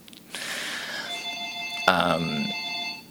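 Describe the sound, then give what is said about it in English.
A phone rings with a bright electronic tone that holds steady, then a second louder burst of ringing starts partway through and continues to the end. “So says the phone.”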